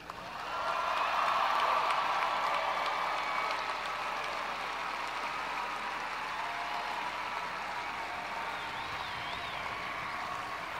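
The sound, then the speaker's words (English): A crowd breaks into sustained applause, a dense wash of many hands clapping that swells quickly, stays loud and steady for several seconds, then eases slightly but keeps going without pause. “Clap all of the people who made it possible for you to be there today.”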